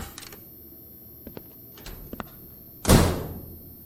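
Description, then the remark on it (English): A few faint clicks and handling noises, then a door is shut with a loud slam as a person leaves, ringing briefly before fading, with no one talking. “Just let me show myself the door, why don't I?”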